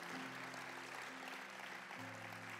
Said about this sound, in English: Can we just thank him today for all the stuff that we wanted and we thought was best? Come on, clap a little bit louder.